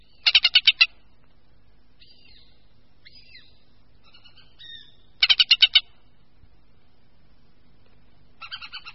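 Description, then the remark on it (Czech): A hen harrier gives two loud bursts of rapid, high chattering notes, about five or six each, with softer, thinner calls between and a fainter burst at the end. No one speaks. “Hlas motáka Pilicha nepatří mezi nejznámější hlasy našich dravců a podobně tomu asi bude i s jeho vzhledem.”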